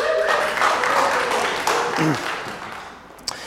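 A crowd claps together for a volunteer coming up to the front, in a steady wash of applause that gradually fades out, with scattered voices murmuring underneath and a single sharp tap near the end.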